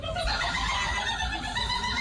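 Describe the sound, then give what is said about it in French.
A human voice imitates a turkey's gobble, the winning call of this year's gobbling championship: a rapid warbling, throaty call that fills the whole two seconds at steady loudness, with no talking over it. “Elle a sorti un glouglou tellement réaliste que même les dindons se sont demandé ce qu'il se passait.”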